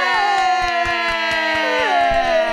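Steady hand claps in an even rhythm, applauded directly into the microphone to welcome a guest, with a sustained droning, music-like tone running underneath the whole time.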